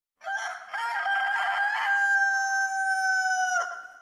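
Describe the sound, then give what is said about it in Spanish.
A rooster crows once, far away at dawn, in a long, drawn-out call, its strained harmonic tone sustained for several seconds before breaking off, heard alone with no talking. “Lo que sí se oyó, muy a lo lejos, fue un canto de gallo que para algunos de nosotros...”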